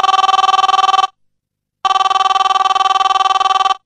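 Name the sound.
mobile phone ringtone ringing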